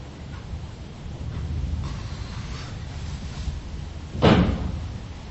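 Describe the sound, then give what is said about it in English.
A single sharp bang of windows banging in the neighbouring building breaks through a steady low rumble, followed by a brief rattling decay. Softer muffled knocks come earlier, and no one speaks. “because I hear banging of windows and stuff here in the next building, that something's not open.”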